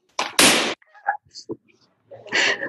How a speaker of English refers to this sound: And popping a balloon makes a super loud and scary sound.